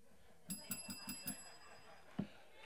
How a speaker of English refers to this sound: That's the amen bell.